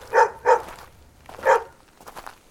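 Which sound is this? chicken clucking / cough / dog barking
dog barking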